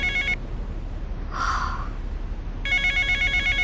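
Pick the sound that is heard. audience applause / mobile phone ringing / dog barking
mobile phone ringing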